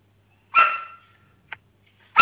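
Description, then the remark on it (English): A dog barks sharply a couple of times with a brief yip between, loud, with quiet pauses in between and no one talking. “That's, my dog is not I'm objecting.”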